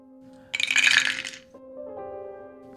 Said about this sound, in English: So that is a 5. So we'll say you get an extra die for that. So roll 5 dice with no extra charge.